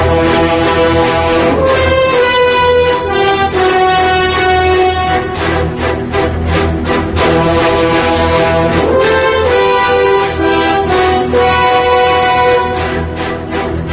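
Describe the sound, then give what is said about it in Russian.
Factory sirens of rebelling Novocherkassk in early summer 1962, sounding after meat and lard prices rose by about a third, blare without pause, several sustained, harmonic horn tones overlapping in a loud, steady drone that swells and wavers slightly over the whole stretch, with no voices. “В ответ прозвучал уже не звонок, а заводские гудки взбунтовавшегося Новочеркасска.”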